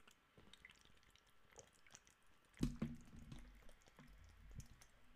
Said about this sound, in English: Sorry, I had to take a swig of my water.